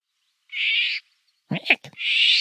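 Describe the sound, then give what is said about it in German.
Harsh, croaking bird calls, jay-like and raspy: two drawn-out screechy notes with a shorter, rougher croak between them, loud, with no talking. “Neben dem Gesang ist auch der Ruf noch relativ charakteristisch.”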